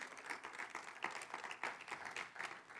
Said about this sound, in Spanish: ¿Quién le puede dar un aplauso, Señor? Claro que sí.